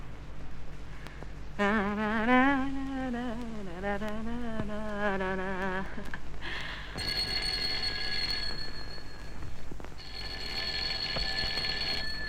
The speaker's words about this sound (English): We'll keep ringing. He must be asleep.